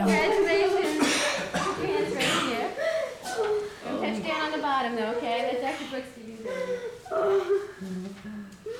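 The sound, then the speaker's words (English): A newborn baby boy gives a few small, sputtering coughs, mixed with soft wet vocal sounds and murmuring voices around it. “Coughing already.”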